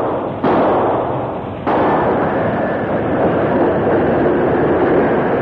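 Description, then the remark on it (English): A steam locomotive roars along steadily at a steady speed as two sharp bursts go off in quick succession early on when its wheels explode rail torpedoes placed along one rail as a danger signal. The heavy, loud rumble continues unbroken afterward. “The big engine approached rapidly, maintaining a steady speed, until one of the wheels exploded the torpedoes.”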